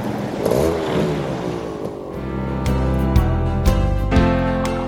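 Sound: motorcycle engine revving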